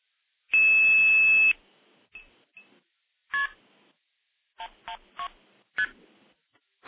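A telephone tone holds steady for about a second, then a string of short touch-tone keypad beeps follows in uneven bursts as the code 112 is dialed for the Evan Dorbell classic tandem stacking tape, clear with no voices.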